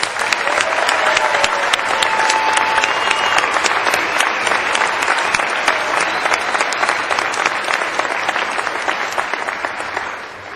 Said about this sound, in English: Let's give all of our students who have worked so hard a big round of applause.